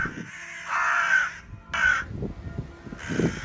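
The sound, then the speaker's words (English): Harsh crow caws ring out in three loud bursts, each a raspy, drawn-out call separated by short pauses, with no voices present. “So while we just digest and think about that poem, we're going to hear a few bird sounds.”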